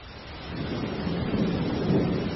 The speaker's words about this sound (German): Doch der Sturm ließ nicht nach, nicht am nächsten und auch nicht am übernächsten Tag. Es war dunkel wie in der Nacht, der Regen prasselte herab und die Wellen wurden höher und höher.